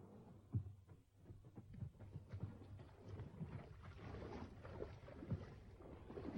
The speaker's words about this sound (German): Sie haben sich ein Ruderboot geschnappt. Hey! Sie wollen gerade abstoßen.